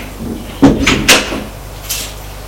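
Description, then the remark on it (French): A door swings shut with a cluster of sharp knocks and latch clicks, followed a moment later by a softer, fainter click, with no one talking. “Ils ouvrent. Ils entrent. Ferment la porte.”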